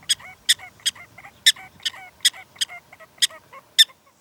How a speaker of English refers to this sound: Prairie dogs are chatterboxes. There's always a lot of talking going on a prairie dog town. They're talking about everything incessantly. They're like, ch-ch-ch-ch-ch-ch-ch-ch-ch-ch-ch-ch.